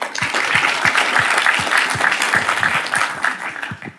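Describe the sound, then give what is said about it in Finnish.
Sustained welcoming applause from a crowd for writer Minna Lindgren and a second guest, a dense wash of steady clapping at even loudness for several seconds before it starts to taper off at the end; no one speaks. “Paitsi Minna Lindgrenille, lämpimät tervetuloa aplodit ehdottomasti myös”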